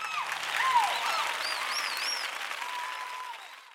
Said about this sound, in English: The first time the meerkat saw Alfie, King of the Desert, everyone clapped and whistled.